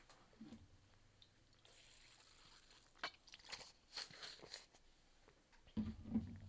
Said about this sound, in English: Little water break.